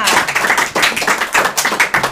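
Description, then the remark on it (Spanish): An audience claps steadily before a poem recital, many hands overlapping into a dense, loud patter that swells in waves without pause. Nobody speaks over it. “Un aplauso más grande, eso, un aplauso más grande.”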